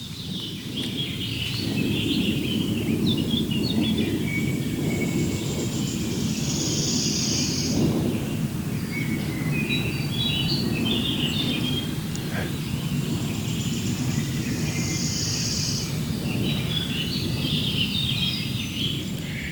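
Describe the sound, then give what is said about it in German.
A low, steady roar of a large airplane passing overhead fills the whole stretch, a broad rumble that never lets up, with birds chirping and trilling faintly above it. “Ja, ist doch immer wieder schön, wenn so ein Flugzeug oben rüber fliegt, dann wissen wir gleich, Donnervogel, den können wir alle bestimmen.”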